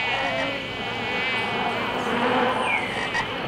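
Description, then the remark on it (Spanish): A dense, steady chorus of toads croaking alongside buzzing, droning insects, continuous and fairly loud throughout, like a humid night soundscape with no voices. “Aquí no se cazan ni se comen sapos ni lagartijas, porque ellos son los guardianes del cacao.”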